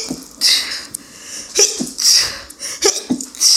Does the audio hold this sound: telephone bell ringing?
no